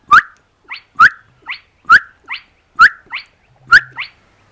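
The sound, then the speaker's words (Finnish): A spotted crake, more than a kilometre away, gives its whip-like call: five sharp, rising 'hwitt' notes, evenly spaced just under a second apart, each followed by a fainter, shorter echoing note. “Kai tätä ääntä voi kutsua myös huitin lauluksi. Alle sekunnin välein kajahtava sivallus.”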